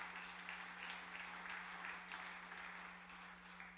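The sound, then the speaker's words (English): A church audience claps together as a clap offering to the Lord, a steady, dense wash of applause that holds for several seconds without a break, fairly soft overall, with a low electrical hum running underneath and no talking. “Come on, give the Lord a good clap offering, would you?”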